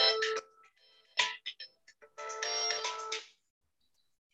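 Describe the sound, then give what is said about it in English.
A mobile phone ringtone plays a bright, tonal melody in short bursts, loud, then cuts off into near silence. “I keep my phone on because my daughter has an infant and sometimes she's...”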